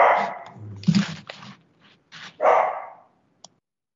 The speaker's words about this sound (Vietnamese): Xin lỗi, nhà có con chó nó sủa khi nó khác. Họ đi vào thị trường Hoa Kỳ rất là nhiều lần và sau đó thì họ lại, xin lỗi quý vị, con chó để tôi ra tôi chỉnh nó tí xíu.